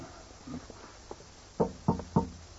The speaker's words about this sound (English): Take care. The stairs are rather worn. And noisy, too. They creak feet to wake the dead.